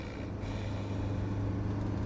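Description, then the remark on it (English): A steady, low engine rumble drones continuously with a constant hum inside a moving bus at night; no voices, just the even mechanical noise. “At night, they're back on the bus.”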